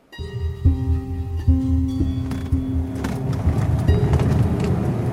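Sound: car driving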